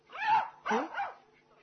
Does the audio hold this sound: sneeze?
no